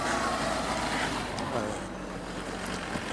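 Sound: car driving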